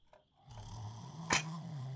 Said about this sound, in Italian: La strega russava forte e lui finalmente lo vide.